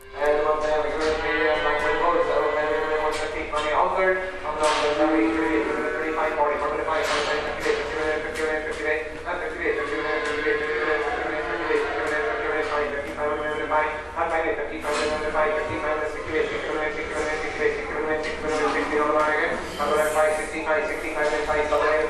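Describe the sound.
A cattle mart auction: a loud voice calls in a rapid, unbroken chant, with scattered knocks and shuffling from livestock in the ring beneath it.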